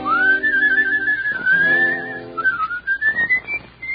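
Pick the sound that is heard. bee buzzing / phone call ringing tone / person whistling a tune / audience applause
person whistling a tune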